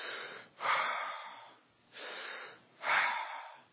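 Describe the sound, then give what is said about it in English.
Heavy, rasping breathing right at a bedroom window screen in the middle of the night: three loud, drawn-out breaths in a slow, steady rhythm, with brief pauses between them and no talking. “And sure enough, you could hear the heavy breathing right at our screen.”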